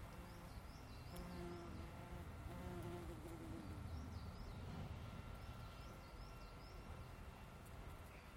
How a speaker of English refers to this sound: Anyway, lots of wasps about this morning. In fact, there's more than I thought. Oh, you can capture a wasp.